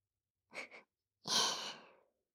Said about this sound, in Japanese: まだはぁはぁってしてる。